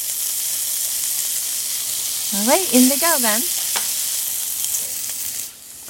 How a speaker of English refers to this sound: All right, so let's go ahead and add the cicadas. I'm gonna create a little pocket here, add a little oil so we could get some good sizzle sound for the cicadas.